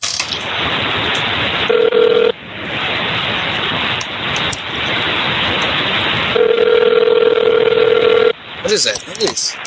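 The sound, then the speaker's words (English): Telephone tones on a call to a hotel: a short steady beep, then a longer one a few seconds later, both sounding through loud, crackling static that fills the whole clip. “What is that noise? Hang up your phone”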